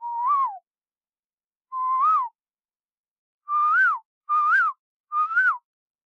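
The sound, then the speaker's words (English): A clear whistled bird call: five short fluty notes, each rising then dropping, two spaced apart and then three in quicker succession, steady in loudness, with no talking. “And some are just like a one-off kind of call.”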